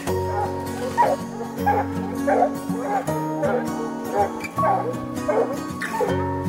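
A pack of free-ranging hunting dogs chasing bear barks and yips excitedly over and over, several voices overlapping in a steady, urgent chorus, with a low constant hum underneath.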